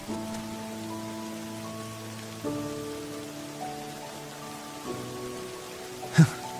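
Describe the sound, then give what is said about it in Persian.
Steady rain falls on a surface with a soft, continuous patter, while low sustained tones drone underneath and a sharp knock pops out near the end. “بارون گرفت. جدی بارونه؟”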